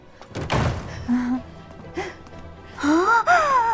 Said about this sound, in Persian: پنلوپه نفس نفس می زند اما راضی است.